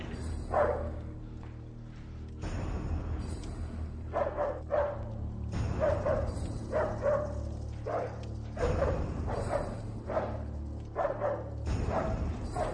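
A dog barks over and over in quick, loud bursts, with brief yips mixed in, above a steady low rumble in the background.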